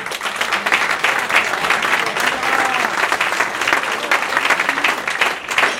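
Sustained applause from a crowd, a dense steady crackle of many hands clapping at once, holding at an even, fairly loud level for several seconds.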